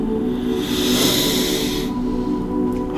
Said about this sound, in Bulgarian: И продължи да дишаш дълбоко, пълно йогийско дишане, биоенергийно, пълно йогийско дишане.